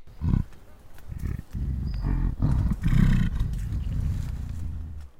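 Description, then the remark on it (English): A gorilla's belch vocalization, an expression of well-being: a deep, rumbling animal vocalization, very low-pitched and sustained, rising in short guttural pulses over several seconds with a throaty, resonant quality. “Belch vocalization.”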